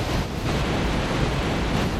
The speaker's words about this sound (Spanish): Esas olas, los golpes de mar que tienen una fuerza y una rapidez imposible de esquivar.